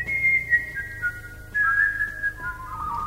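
Someone whistles a wavering melodic tune, with the notes gliding up and down continuously over a low, steady background rumble.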